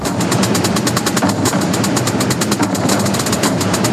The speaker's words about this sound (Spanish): ¿Te suena? Si no, te va a sonar estos días muchísimo. El tambor es sin duda el sonido de la Semana Santa.